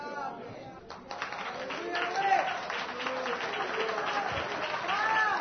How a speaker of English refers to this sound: He loves the hand clap. Yah does.